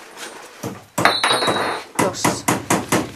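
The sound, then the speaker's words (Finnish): Wheels being fitted onto a wooden toy bus made from wood with a saw: sharp knocks and taps, one heavier clunk with a brief metallic ring, then a steady run of five or so evenly spaced raps. “Sitten mä laitan ne renkaat vielä.”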